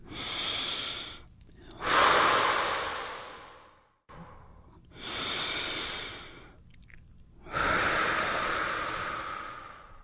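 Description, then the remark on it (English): Slow, deep breaths taken as a guided deep-breathing exercise: two full cycles of long airy inhales followed by longer exhales, with short pauses between them and no talking. “And let's just take a couple of breaths right now.”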